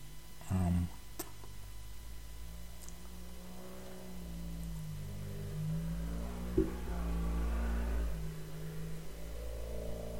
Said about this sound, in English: Turbo engine. One day that thing is going to shoot and blow up. Waking everybody up with that beat up unturned engine. I know y'all heard that.